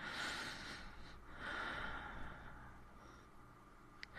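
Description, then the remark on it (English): Heavy, ragged breathing with two long, rough breaths and a quieter, shakier exhale trailing after them, with no talking. “Your breathing is ragged.”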